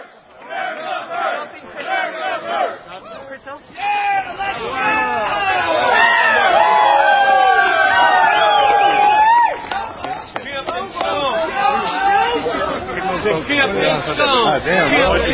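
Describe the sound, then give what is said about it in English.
A large crowd at a rally following Alex Jones at the state capitol building in Atlanta, Georgia, chatters and cheers, many overlapping voices building into a loud, sustained roar of shouts and whoops that stays dense throughout, with occasional louder individual yells rising above the babble. “We got a massive crowd here following Alex Jones at the state capitol building in Atlanta, Georgia.”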